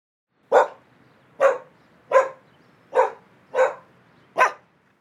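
A dog barks six times in a steady, evenly spaced rhythm, each bark loud and short, with brief quiet gaps between them and no other sounds.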